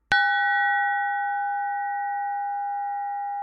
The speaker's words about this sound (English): Monk Bell 94024.aif.